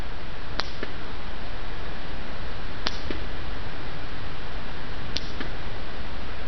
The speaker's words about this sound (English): We can detect the echoes as well. We're able to distinguish between the original click and the echo. This is a sperm whale making clicks with the echoes rebounding back from the surface of the water.